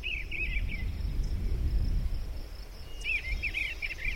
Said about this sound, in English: Sounds like some crickets and a bird. Yep, more precisely, that's an eastern bluebird. The one you just heard is archived in the Cornell Lab of Ornithology, but we have them right here in Philadelphia.